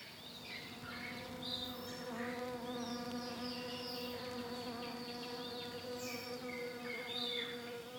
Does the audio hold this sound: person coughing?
no